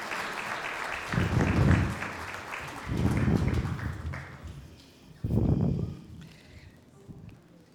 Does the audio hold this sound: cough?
no